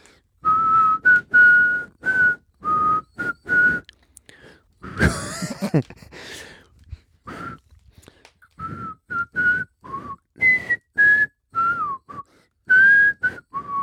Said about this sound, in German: Ich pfeife mal nochmal.